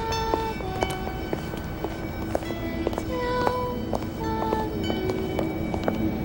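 A well-dressed woman's high heels click sharply and steadily on a sidewalk as she walks by, roughly two crisp steps per second, over a constant background hum with faint tonal whines.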